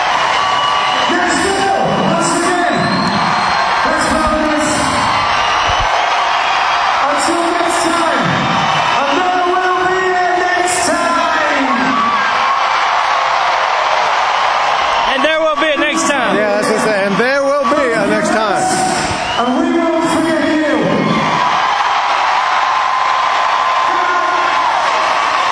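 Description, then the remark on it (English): A large concert crowd in Nashville cheers without pause as the band waves goodbye from the stage: a dense, loud roar of applause punctuated by whoops, yells and shouted voices rising above the din for the whole stretch. “If they got a crowd like this, I guess they will be back.”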